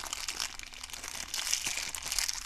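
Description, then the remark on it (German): Continuous dry rustling and crinkling, bright and crackly with a steady busy texture and small irregular bursts, fairly soft throughout with no voices. “Als sie am Abend ins Bett ging und einschlafen wollte, hörte sie ein Rascheln.”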